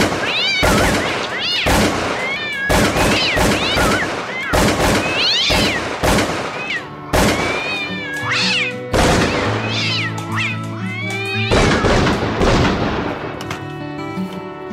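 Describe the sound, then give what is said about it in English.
Many cats meow and yowl loudly in a cat lady's apartment, overlapping one another, while sharp gunshots crack repeatedly through the chaos, with rapid bursts of fire mixed among the cries. “But then, on the other hand, there are some days when you luck out and stumble onto a cat lady's apartment.”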